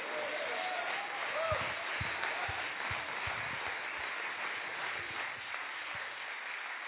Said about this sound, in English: And if you believe it tonight, clap your hands and shout glory to God.